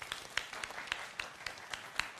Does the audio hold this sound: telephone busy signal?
no